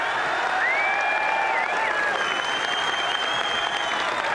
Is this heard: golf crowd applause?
yes